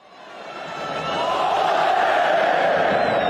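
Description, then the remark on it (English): A crowd in a soccer stadium in central Turkey cheers and chants olé to celebrate Spain, a dense roar of many voices that swells over the first second and then holds loud and steady to the end, with a band faintly playing a traditional Spanish paso doble. “In a soccer stadium in central Turkey in March, the crowds cheered on their respective teams, but then they came together to celebrate Spain. Olé, they yell in unison.”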